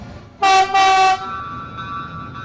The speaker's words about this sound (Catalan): deixem el micro obert perquè sentim com sona l'entrada d'un tren de mercaderies al port de Barcelona